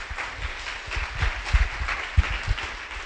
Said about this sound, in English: So maybe special applause that we are all here.